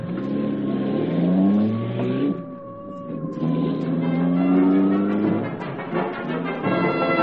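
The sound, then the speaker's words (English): A car engine revs up and accelerates loudly, its pitch climbing in two strong surges separated by a brief dip, with a steady whining tone running underneath. No voices. “There's a car nearby when the radio flash went out. Car right here.”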